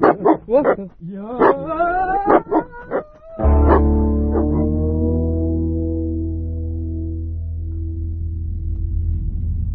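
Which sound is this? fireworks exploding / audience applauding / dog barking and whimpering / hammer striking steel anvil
dog barking and whimpering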